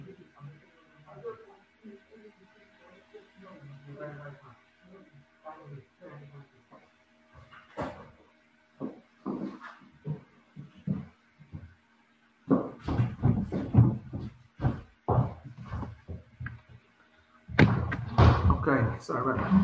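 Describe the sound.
A front door is answered, opened and closed with a series of clunks and thuds, the loudest bursts coming near the end, with muffled voices and household movement in between.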